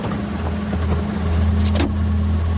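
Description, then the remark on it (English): A waiting car's engine idles steadily, its low hum continuous, while a brief rustling thump near the end suggests two brothers climbing into the back seat. No one speaks. “The brothers get into the back seat of a waiting car.”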